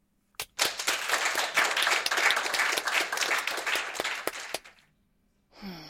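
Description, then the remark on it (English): A small group of board meeting attendees breaks into applause for a new sales manager's presentation, dense overlapping claps sustained for about four seconds before stopping abruptly, followed by a brief shuffling noise. “Ladies and gentlemen of the board, a round of applause for our newest sales manager and her excellent presentation.”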